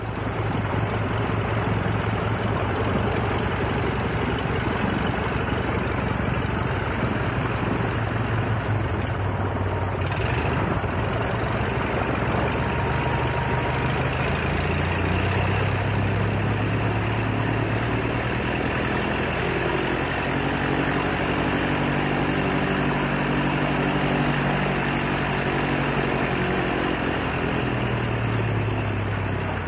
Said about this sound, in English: But this is the sound of a training plane. And this is what was the first aircraft engine that many people all over the country, if not all over the world, heard. And it's the sound of the famous OX-5 engine. Nice sound, isn't it?